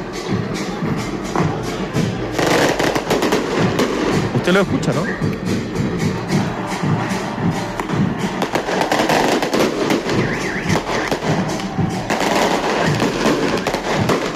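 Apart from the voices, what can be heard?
fireworks exploding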